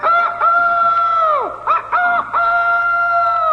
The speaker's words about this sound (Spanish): el gallo, cantando a pleno pulmón, dejó al bandido poco menos que sordo